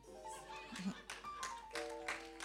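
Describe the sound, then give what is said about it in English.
Scattered claps from a church audience ring out as a handful of sharp, fairly loud bursts at uneven intervals, mixed with voices and cheering in the background. “So I thought I'll bring her here so we'll share the clap together.”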